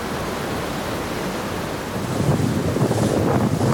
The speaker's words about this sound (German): ich habe mich anlässlich dieser Folge mal an einen unserer Lieblingsstrände hier in L.A. gesetzt, den Manhattan Beach. Denn heute geht es bei uns ums Meer.